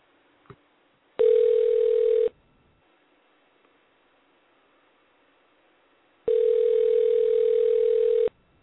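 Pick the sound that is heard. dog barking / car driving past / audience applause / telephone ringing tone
telephone ringing tone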